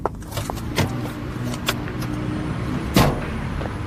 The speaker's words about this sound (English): Ah, this BMW appears to be taking a shortcut past my house.